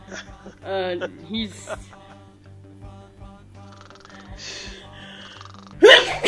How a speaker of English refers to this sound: Bless you.